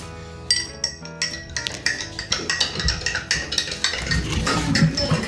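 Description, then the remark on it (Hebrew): A spoon clinks rapidly and repeatedly against the inside of a glass, stirring two spoonfuls of baking soda into water until it dissolves. A busy, bright ringing rattle continues steadily throughout with no talking. “מערבבים את הסודה לשתייה בכוס עד שהסודה לשתייה ממש ככה נראה שהיא נמסה, ואז משאירים את זה.”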